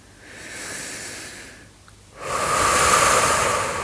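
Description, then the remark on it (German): Two deep breaths during a breathing exercise: a long, airy inhale, a brief pause, then a louder, forceful exhale rushing out. No talking. “Atme ganz fest aus. Und wieder ein.”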